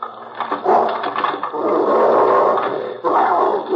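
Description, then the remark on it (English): Fred Harlan's dog growls and snarls continuously and loudly at his house door, a rough, rumbling sound that swells and briefly eases before surging again near the end, with no talking. “There's no one here but the dog.”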